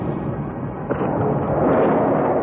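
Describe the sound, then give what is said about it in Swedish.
A heavy, sustained rumble of bomb explosions rolls over Baghdad, Iraq, at night in December 1998, loud and dense, with a brief sharper crack cutting through partway. No voices are heard. “En rad öronbedövande explosioner skakade alltså Iraks huvudstad Bagdad i natt och irakiskt luftvärn lyste upp himlen för tredje dygnet i rad.”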